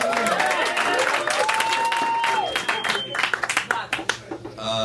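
An audience claps in a dense, steady burst of applause with some whoops and cheers, then it thins into scattered individual claps toward the end.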